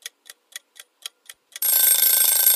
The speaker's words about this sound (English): Oh, my oven's beeping. I got to run off and take the chicken out of the fucking oven.